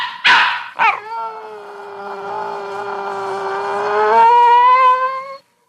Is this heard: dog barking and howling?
yes